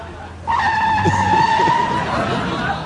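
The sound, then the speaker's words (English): An American car's tires squeal in a long, high, steady screech as its brakes lock and the vehicle skids, running for about two seconds over a low engine rumble before fading slightly. “I tell you, these brakes are tricky.”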